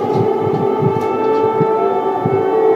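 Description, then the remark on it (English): A loud air raid siren blares steadily in Kyiv, Ukraine, during a Russian drone attack, its sustained wailing tone filling the whole stretch with no break, heard alone without any voices. “An air raid siren blares amid a Russian drone attack on the Ukrainian capital.”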